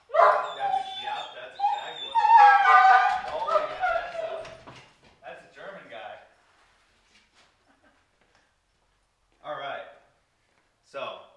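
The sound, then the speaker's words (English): Dogs Bane and Luna whimper and yip in an excited, high-pitched stretch for several seconds, then fall quiet before two more short whining bursts near the end. “I might need to do something with these dogs because it's getting dangerous as fuck”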